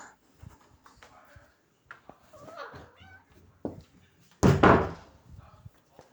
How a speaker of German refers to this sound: Muss man meine Katzen trennen? Die besteigen sich hier gerade.